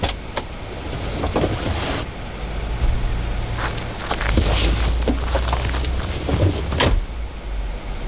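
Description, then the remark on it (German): A car engine rumbles and the vehicle pulls away, its low drone swelling slightly as it gathers speed, with a few brief clunks and rattles along the way. “Als der Wagen losfuhr und davon brauste,”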